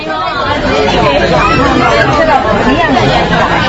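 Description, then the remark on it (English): A steady hubbub of many overlapping voices fills a busy jewelry store as customers crowd a long glass display counter, chattering continuously and fairly loudly with no single speaker standing out. “Customers crowd a long glass display counter at the Golden Palace jewelry store.”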